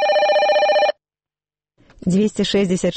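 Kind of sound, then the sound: signal or alarm, telephone ringing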